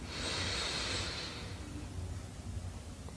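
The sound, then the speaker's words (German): A single long, airy inhale, the third deep breath of a guided relaxation exercise, rushing and breathy for about a second and a half before fading into quiet room tone. “Wir nehmen den dritten tiefen Atemzug und atmen ein.”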